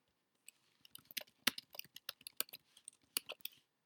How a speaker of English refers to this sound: I'm making a note because I wanted to like put a pin in that, because I want to come back to that. So you're going to hear me typing, because I really want to come back to that at some point.